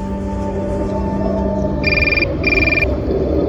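A mobile phone rings with two short electronic bursts of a bright, warbling tone, an office calling from Paris, clear over a steady background hum and rumble. No one speaks.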